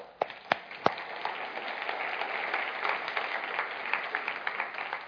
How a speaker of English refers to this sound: I can see those of you who aren't clapping. That's terrible. Oh, you guys are awesome.